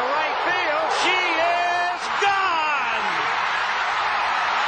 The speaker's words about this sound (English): And then you fall silent and let the crowd roar go on until almost a minute passes and it concludes this way.